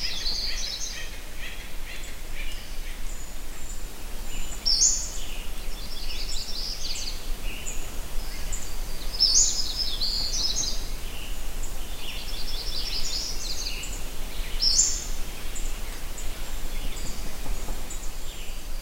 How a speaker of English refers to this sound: I heard a little bit of a white-breasted nuthatch in the background. That almost sounds like a squeaky toy. Yeah. Is that what it is? Yeah, there's actually several species in that recording.